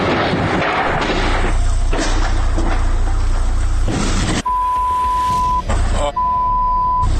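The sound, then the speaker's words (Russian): A car pulls out with a loud, steady roaring rumble; after it cuts off, two long, even electronic beeps sound with a short gap between them. No one speaks. “Там машина выезжает.”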